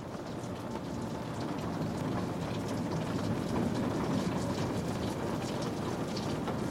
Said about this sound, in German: Der Regen hat die Fenster leicht beschlagen.